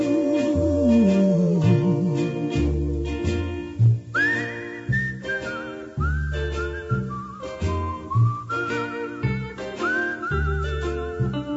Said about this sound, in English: A whistling tune for walking in the night. It's a whistling tune for walking in the night.